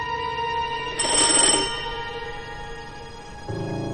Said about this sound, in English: She approaches the front door. She turns an old-fashioned doorbell.